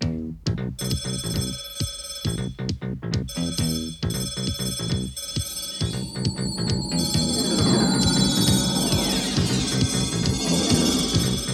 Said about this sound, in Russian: Междугородний телефон